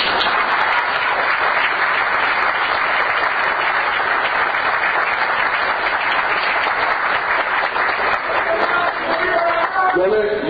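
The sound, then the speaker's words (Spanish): Sustained audience applause, a dense, steady wash of many hands clapping at an even loudness throughout, with a few voices faintly audible beneath it near the end. “Que aquí hay mucha generosidad y en un año de crisis, eso merece doble aplauso.”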